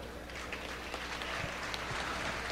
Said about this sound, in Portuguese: Eu vou pedir duas salvas de palmas.